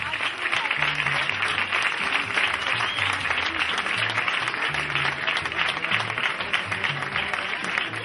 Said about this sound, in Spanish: Así que, por favor, espero que recibáis con un fortísimo aplauso